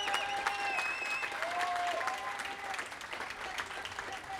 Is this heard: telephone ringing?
no